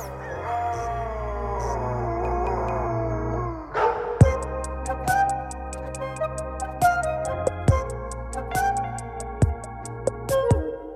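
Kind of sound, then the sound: animal, two dogs barking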